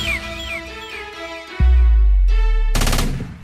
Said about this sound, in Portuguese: Estourou 12 por 1 e vários tiros de fuzil.